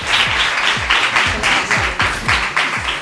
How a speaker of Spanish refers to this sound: Un fuerte aplauso ahora sí para vuestras compañeras. Vamos, vamos, vamos.